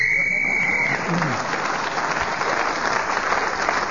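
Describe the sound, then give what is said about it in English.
A single sharp whistle blast in a game show, blown to end the round as Clement Freud was speaking, sounds for about a second, then fades into sustained applause from a live audience that carries on to the end. “So Clement Freud, speaking as the whistle went, has moved forward.”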